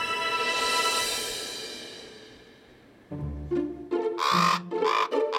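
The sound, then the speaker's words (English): A fading shimmering tone gives way to a burst of harsh, raspy calls from a raven circling over a bunkhouse, several loud croaks in an irregular rhythm with no talking. “Raven is circling over the bunkhouse.”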